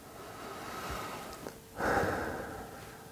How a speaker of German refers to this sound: Bewusstes, tiefes Atmen.